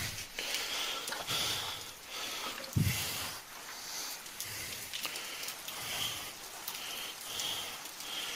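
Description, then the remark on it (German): Heavy rain pours down in a dense, steady hiss that stays loud throughout, with a brief low thump partway through and no voices. “Na, da hilft viel, wenn es regnet.”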